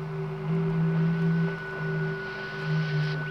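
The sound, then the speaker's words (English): Radio impulses from the planet Venus: steady electronic humming tones layered over a wash of static hiss, swelling slightly in pulses, continuous throughout with no voices. “do you have any idea what you're listening to? London Philharmonic? It's Venus.”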